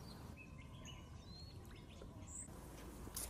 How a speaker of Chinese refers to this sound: 我们一直走，最后发现了这个池塘，那边有个大叔在捕鱼。站在这里能听到鸟叫声和流水声，感觉很舒服。